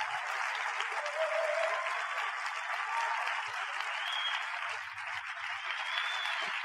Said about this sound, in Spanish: Wow. Un aplauso más fuerte